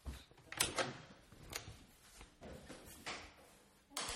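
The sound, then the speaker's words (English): A door being opened for a visitor, with a series of clicks, knocks and rattling handle noises spread over a few seconds, ending in a sharper clack. No one speaks. “who's at my door? Hang on, I'll get this.”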